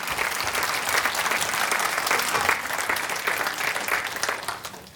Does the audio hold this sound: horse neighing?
no